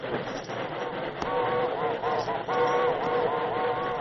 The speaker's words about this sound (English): Neither horse nor rider seemed aware of the terrifying iron monster that thundered toward them. They waited motionless in the face of certain death. Then they heard the whistle of the train blowing frantically.